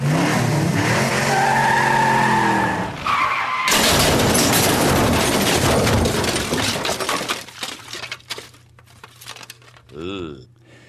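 A car skids with tires squealing in a long, wavering high-pitched screech, then a loud crunching crash breaks out, followed by scattered clattering debris that fades away.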